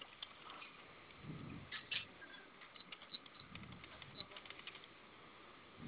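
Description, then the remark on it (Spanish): Scattered clicks and soft taps of buttons being pressed on a shop's alarm keypad, entering the hash key three times and then asterisk 72 after the alarm was set off, irregular and fairly faint, over muffled background noise on a narrow phone-like line. “Va a presionar tres veces gato, asterisco 72, por favor.”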